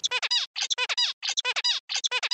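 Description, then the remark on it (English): A zebra finch sings its stereotyped linear song sequence, the same short motif four times in a row, each a quick run of buzzy, nasal, high-pitched syllables in identical order, separated by brief pauses, with no talking. “So it and so there's a stereotyped sequence in which he produces these vocal elements, these sounds, and that's again this trademark of the zebra finch songs, this stereotyped sequencing that we see.”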